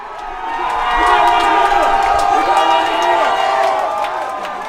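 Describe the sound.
A large crowd of protesters erupts in sustained cheering and shouting, a dense wash of many voices swelling quickly and holding loud for several seconds before easing slightly, as a deputy in riot gear in the line facing them takes a knee.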